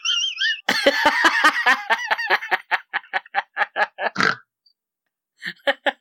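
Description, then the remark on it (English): Someone snorts like a pig, fairly loud: a rapid, dense burst that slows into a string of separate grunting snorts, then a short pause and a few final snorts. “What's this pig snort that you have going on now, dude?”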